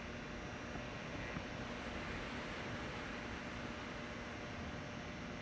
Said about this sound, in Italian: E insieme al suono dell'oceano, alle onde, come una ninna nanna creata per te. Continua a respirare qui. Continua a percepire il suono delle onde.